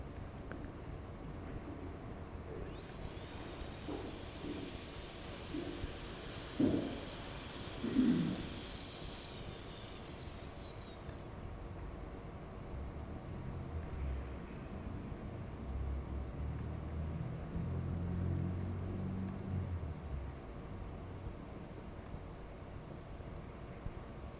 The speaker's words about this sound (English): Okay, once again, let's hiss. Hiss.